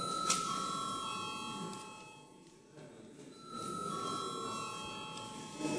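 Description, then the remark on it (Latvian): An electric bell rings steadily and fairly loudly for several seconds in a parliamentary chamber before a vote, dips briefly midway, then resumes, with a faint murmur of the chamber underneath. “Lūdzu zvanu.”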